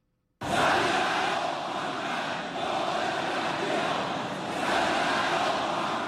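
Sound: crowd applauding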